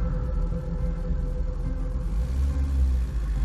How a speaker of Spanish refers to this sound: se subió a su auto y condujo contento hasta Edimburgo.